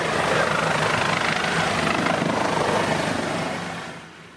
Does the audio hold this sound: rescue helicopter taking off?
yes